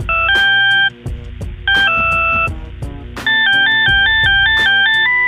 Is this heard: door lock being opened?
no